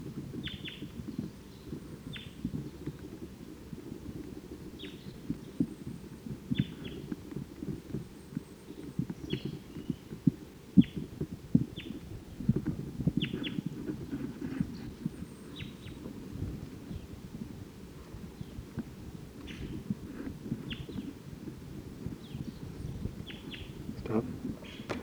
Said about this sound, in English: I think this is the same bird. Flew to a different perch. I still don't see the bird.